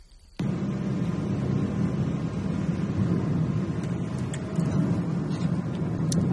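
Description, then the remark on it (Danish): Steady low rumble of a car in motion, heard from inside the cabin as it drives out of Hunedoara in the morning, starting abruptly after a brief quiet moment and continuing evenly with faint occasional clicks and road noise. “Det er morgen, og vi sidder i bilen, og er ved at køre ud af Hunedoara.”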